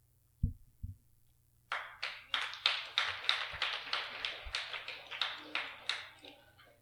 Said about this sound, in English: Or the full-on clap.